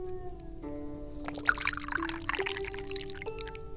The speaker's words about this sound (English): I don't think that I have any football today, so let's pour some tea.